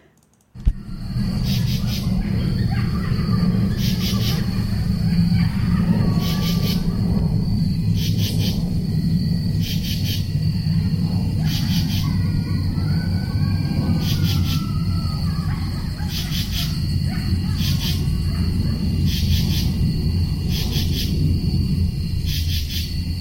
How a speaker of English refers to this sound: If you're still listening, here's some night sounds from when I was sleeping in the woods in East Hampton a couple of weeks ago.